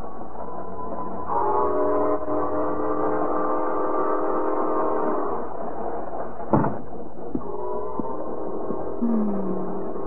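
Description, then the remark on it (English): A passenger train bound for Detroit rumbles steadily at a depot while its horn blasts in long, loud chords, pausing briefly with a sharp clank before the horn sounds again, with no voices. “the wedding party rushed Jane and Bill to the depot just in time to push them aboard the train for Detroit”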